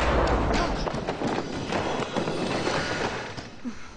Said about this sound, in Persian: اون چی بود؟ این یه هتل قدیمیه. تو هتلای قدیمی که صدای پا نمیاد مگه که کسی بخواد توش را بره. اون موقع است که صدای پا میاد.